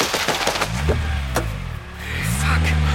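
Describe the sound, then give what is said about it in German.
A car engine rumbles, then a sharp splintering crash as the car drives into another car amid rapid impact clatter, followed by the engine revving up again as the vehicle drives off, heard by people standing some way off. “Krass, da kracht er voll in die Karre rein und haut einfach ab.”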